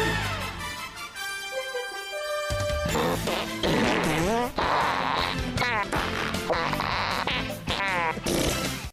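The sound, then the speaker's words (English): A loud, playful jingle made of fart noises, played as a theme song, starting with sustained buzzy tones and then a rapid, dense run of squeaky, wobbling raspberry blasts layered over a busy musical backing. “Farts are so you know funny.”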